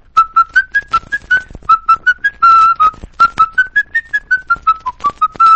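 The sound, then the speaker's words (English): Someone whistles the lively, bouncy tune of Yankee Doodle, a quick run of short clear notes rising and falling in steady rhythm, fairly loud with no talking. “Now, you whistle the tune of Yankee Doodle.”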